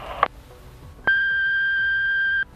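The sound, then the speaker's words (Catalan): A short click is followed by a home answering machine's loud, steady electronic beep, from an old cassette tape, at one constant mid-high pitch, held for over a second before cutting off abruptly. No voices are present. “Si vols deixar algun missatge, espera sentir el pip.”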